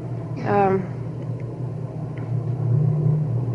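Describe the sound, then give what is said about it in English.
A low, steady droning rumble of an airplane passing overhead during a poetry reading fills the whole clip, swelling slightly toward the end, with a brief higher-pitched sweep near the start. “Well, I was going to read an airplane, and so for once I don't resent one of these going over.”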